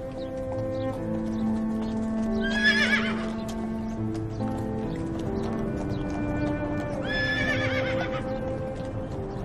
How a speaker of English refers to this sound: Don't be scared. A horse is a very gentle animal. It won't do anything to you.